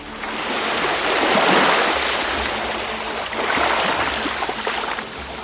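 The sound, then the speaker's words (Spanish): Rough, roaring storm waves of 3 to 4 metres in the Atlantic surge in two broad swells around a small migrant boat in darkness during a storm, a dense hiss of churning waves with low rumbling underneath, loud and continuous with no voices. “En la inmensa oscuridad, una patera desafía las olas de 3 y 4 metros.”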